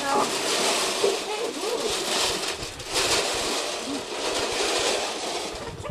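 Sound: water being poured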